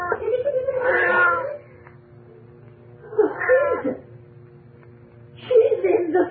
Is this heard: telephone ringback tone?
no